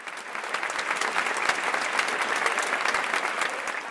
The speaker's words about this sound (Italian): La serata si concluse con un lungo applauso.